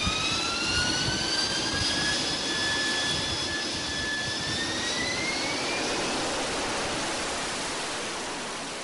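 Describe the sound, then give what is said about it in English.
A loud, steady roar from the jet engine of a Bristol 188 aircraft, with a broad rushing noise and high whining tones that slowly glide and fade, continuous, with no voices. “Britain's fastest aircraft, the Bristol 188.”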